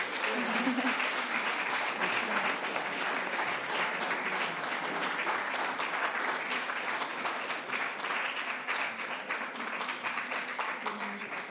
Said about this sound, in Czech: tak je pojďte přivítat velkým potleskem.